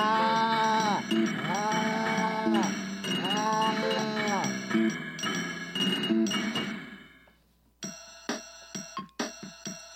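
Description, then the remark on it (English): A stampede of cattle in a rail yard: loud cattle bawl and low in a rising-and-falling chorus of repeated calls for several seconds, then fade out, leaving a few sharp, ringing bell-like chimes. “There's great excitement in the rail yard below. A stampede of cattle.”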